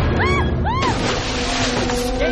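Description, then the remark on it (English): A motorboat engine drones loudly and steadily throughout, with a couple of short rising-and-falling cries or voices cutting over it near the start. “Stop the boat! Tran stops the boat as Gordon, Ben and Jack run to see where she is.”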